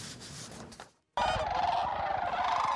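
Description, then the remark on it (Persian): A dense chorus of sandhill cranes and snow geese calling, wintering at Bosque del Apache National Wildlife Refuge along the Rio Grande in New Mexico after migrating from Alaska and northern Canada. Continuous overlapping loud honks and trills from a large flock, with a brief gap of silence before the calling resumes. “مرغابی های ریگزار، آغاز های برفی و بیش از 400 گونه پرنده دیگر پس از مهاجرت از الاسکا و شمال کانادا زمستان را در پناهگاه ملی حیات وحش بوسک دل آپاچی نیو مکسیکو در امتداد رودخانه ریو گراندی می گذرانند.”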